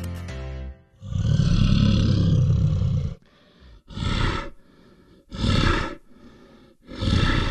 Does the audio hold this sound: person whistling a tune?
no